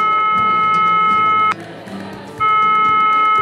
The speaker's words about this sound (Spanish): Y denme un segundo, entro a este cafecito y lo llamo a su teléfono a ver si de pronto me contesta. Buenas tardes. Yo tengo este teléfono hace muchos años, no sé si lo cambió, pero bueno, esperemos a ver.